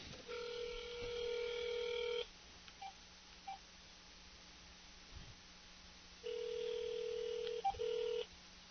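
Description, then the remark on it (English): A telephone ringback tone sounds twice, each buzzy ring lasting about two seconds with a long quiet gap between, heard over the line with no one talking. “And we are ringing.”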